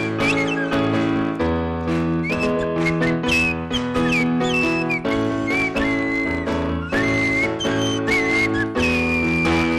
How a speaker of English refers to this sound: So far, crossed off the list, One That Doesn't Speak playing the Swanee Whistle. That's not going to cut it for half an hour.